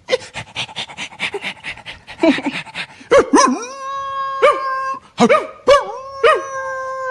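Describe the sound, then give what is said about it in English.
A person imitates a dog, starting with rapid breathy panting and then breaking into high, wavering whines and yelps, several drawn-out cries in a row, fairly loud. “I do great dog impressions. …, you do a dog impression.”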